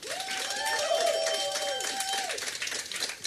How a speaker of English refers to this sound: For all of you brave enough to come out on the cruise, thank you very much. Give yourselves a big round of applause. Sound of applause.